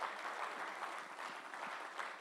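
Steady audience applause for a pastor, a dense wash of many hands clapping at an even level throughout, with no pauses and no voices standing out.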